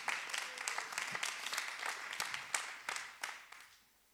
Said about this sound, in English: I'm not going to stop until people give God a round of applause. I'll just stand here all day.